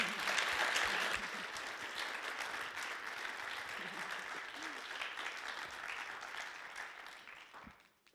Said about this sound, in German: Lass uns ihm einfach noch einen herzlichen Applaus geben.